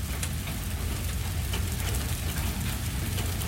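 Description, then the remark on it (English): Steady rain falls continuously, a dense hiss of drops with a low rumbling undertone, fairly loud with no pauses or voices. “Okay, that is rain.”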